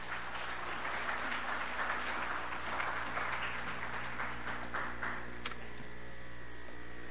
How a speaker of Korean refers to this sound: 우리 큰 박수를 한번 환영하겠습니다.